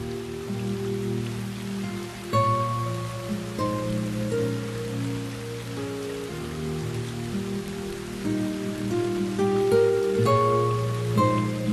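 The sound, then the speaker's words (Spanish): A rain sound effect plays: steady rain pours down continuously, a dense hiss of drops on a surface, blended with soft, sustained musical tones that shift gently underneath. No one speaks. “Este agua que estáis escuchando no es que esté diluviando, aunque ha vuelto a llover aquí en la ciudad de la imagen.”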